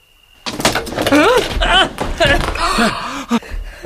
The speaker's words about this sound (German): Mein Stuhl ist zusammengebrochen. Das war ein Zeichen der Geister.